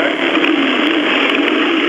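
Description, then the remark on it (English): A tractor engine roars loudly in a football Tractor Dummy drill, a dense, steady mechanical drone with little change in pitch over two seconds, with no voices. “He's revving back.”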